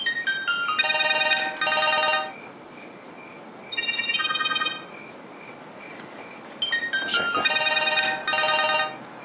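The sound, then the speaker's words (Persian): A phone ringtone plays a bright, electronic melody in three repeating bursts separated by short pauses. It is fairly loud, with a faint hiss underneath and no talking. “محمد حسین تلفنت.”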